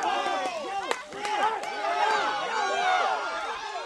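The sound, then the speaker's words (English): A dense crowd in Granada Hills, watching a Pacquiao boxing fight, shouts and cheers as punches land, many overlapping voices forming a loud, steady roar with a couple of sharp bursts rising out of the noise. “With every punch that Pacquiao lands, the crowd erupts.”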